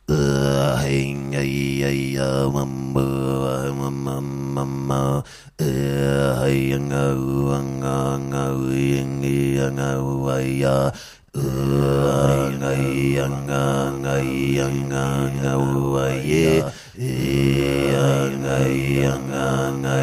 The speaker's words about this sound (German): Also das ist jetzt ohne Effekt, das ist wirklich meine echte Stimme. Es klingt, als würde ich rülpsen, aber es ist wirklich, es ist Kehlkopfgeräusche.